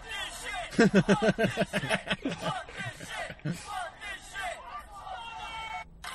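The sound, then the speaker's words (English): A large crowd at a wrestling match in New Jersey roars and cheers wildly as a wrestler hits another with a chair and takes his shirt off, many voices shouting at once in a loud, dense surge that eases into a steady excited hubbub over several seconds. “The crowd goes crazy.”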